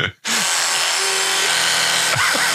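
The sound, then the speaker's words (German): A steady electric buzz of an electric toothbrush starts after a brief silence as someone brushes their teeth, its tone shifting and warbling as the mouth around it opens and closes. “Mich erinnert das aber, wenn man so die Zähne putzt und dabei so den Mund auf und zu macht.”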